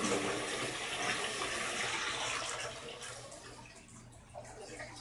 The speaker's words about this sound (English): Sorry about that, folks. I had to flush the toilet. Then I had to put water in.